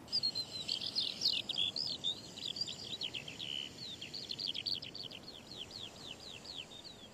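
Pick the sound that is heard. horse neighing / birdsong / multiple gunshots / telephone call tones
birdsong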